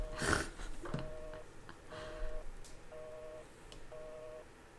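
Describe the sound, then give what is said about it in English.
A phone line tone beeps in short, evenly spaced bursts, about one per second, as a prank call is placed, fairly clear over faint background noise and a brief rustle at the start. “Call him. He's got to be drunk as hell right now.”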